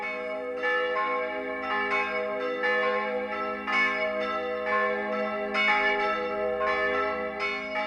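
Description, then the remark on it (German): The big church bells of Zürich peal continuously, their deep booming strokes overlapping in a rich, resonant wash of ringing tones, with new strikes landing roughly every second and no voices present. “Über die Grenze kommen groß und dröhnend die Zürcher Glocken.”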